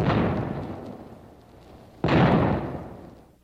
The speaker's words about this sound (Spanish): Hagan dos disparos para indicarles nuestra intención de atacar.